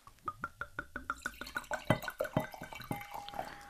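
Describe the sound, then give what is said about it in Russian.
Red wine, a light, semi-transparent Tsimlyansky Cherny, glugs from a bottle into a glass in a quick, steady rhythm of hollow pulses that crowd together and rise slightly in pitch as the glass fills; no voices. “Мне кажется, как будто я какой-нибудь пино нуар наливаю.”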